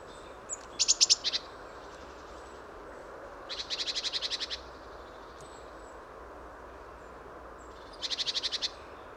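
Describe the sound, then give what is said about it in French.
A lone bird gives varied calls, including a marsh tit imitation: three bursts of rapid, high-pitched repeated notes separated by pauses of a few seconds, over a soft steady background hiss. “L'individu est tout seul, mais émet ses cris très très divers, dont parfois même une imitation de mésange nonnette.”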